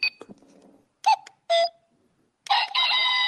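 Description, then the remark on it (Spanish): A digital watch alarm sounds as the watch's first button is pressed: a few short, chirpy electronic bursts separated by pauses, then a longer, louder warbling tone that keeps going. No one speaks. “Eso es para la alarma.”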